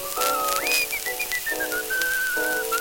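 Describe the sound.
A man whistles a bright, wandering melody, the tune leaping up and then gliding through a run of sustained notes over a soft, steady backing of lower tones, with no talking.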